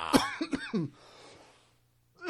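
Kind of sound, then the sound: human body sound, coughing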